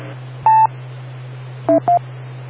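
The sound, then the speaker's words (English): Three telephone keypad beeps: a single tone, a pause, then two quick tones in a row. They sound loud over a steady low electrical hum, with no talking. “if your phone's not on, you can't dial a number.”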